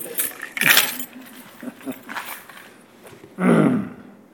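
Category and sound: household object, keys jingling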